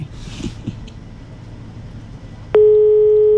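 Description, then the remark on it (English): Low background rumble, then a loud, steady electronic telephone ringing tone starts abruptly and holds unbroken to the end. It is heard over the line as the radio station Radio Sub-User, 88.3 MHz, connects a morning wake-up call to a listener. “Q, are you there? Ha, ah, it's ringing.”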